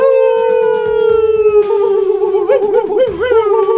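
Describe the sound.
A long, sustained howl from several voices imitating wolves as a Red Wolves cheer at 5 o'clock in the morning, holding a steady pitch before breaking into wavering, warbling rises and falls near the end, loud.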